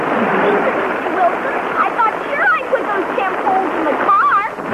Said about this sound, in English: Wake up, it's raining. We've got to put up that tent now.